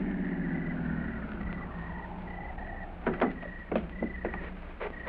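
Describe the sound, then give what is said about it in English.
A car engine rumbles low and steady as the vehicle pulls in behind a medic's car and comes to a stop, then several sharp mechanical clicks and clunks follow. “Pull in behind it,”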